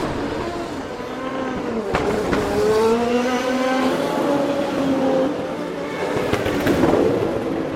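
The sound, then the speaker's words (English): Race cars roar past at high speed at the Long Beach Grand Prix, engines whining with rising and falling pitch as several pass in succession, loud, with sharp cracks and a constant crowd-like background rumble. “Long Beach Grand Prix was recorded by myself and Joe Skyward.”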